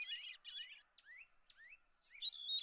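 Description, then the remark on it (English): A hermit thrush sings clear, flute-like phrases with quick rising notes, then a long pure whistle that breaks into a shimmering trill, heard alone at moderate volume in a quiet setting. “True to its name, the hermit thrush is reclusive and is more likely to be heard than seen.”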